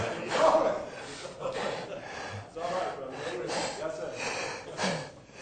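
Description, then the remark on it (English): A voice imitates the biblical Caleb snoring in the Israelite camp, producing a series of rough, breathy snorts that repeat roughly once a second, moderately loud. “And every time they'd take a breath to cry again, they heard somebody snoring.”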